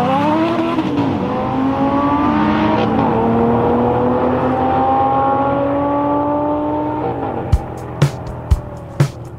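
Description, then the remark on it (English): A 1,001-horsepower Bugatti Veyron supercar engine roars loudly, its pitch climbing steadily as it accelerates, then ends with a few sharp cracks like gear shifts or exhaust pops. “The car I was driving? The one, the only, Bugatti Veyron.”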